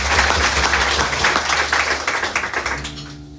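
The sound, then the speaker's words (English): A small group claps in a brief, scattered round of applause for a birthday, a dense patter of overlapping claps for about three seconds that thins out and stops, with no voices. “Yeah, you can applaud.”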